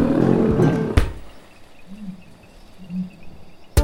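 A lion roars loudly for about a second, then lets out two deep, short grunting moans spaced apart. A sharp thump cuts in midway and another near the end, with no talking.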